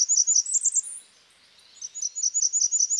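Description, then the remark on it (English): A Blackburnian warbler sings thin, very high-pitched notes in two quick, rapidly repeated phrases separated by a short pause, clear with no other sounds. “Every birder looks forward to their first good look at a male Blackburnian in May, with its burningly orange throat and distinctive song that usually ends on a note so high that you almost need your dog to hear it for you.”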